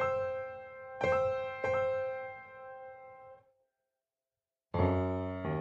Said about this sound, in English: The ship stops. Bells ring from the bridge.